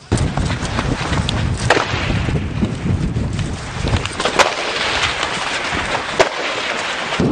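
gunfire

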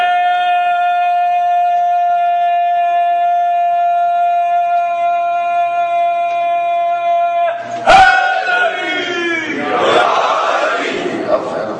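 crowd chanting religious slogans

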